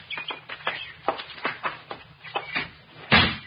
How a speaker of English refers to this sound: Open the door quick. Hey, don't need the key. It's not locked. In you go, baby.